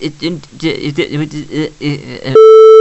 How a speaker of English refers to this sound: What's this last-gen buzzing sound? That would be your phone.